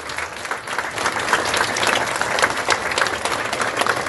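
A crowd applauds steadily for about four seconds, a dense wash of many hands clapping at a fairly even level with no voices standing out.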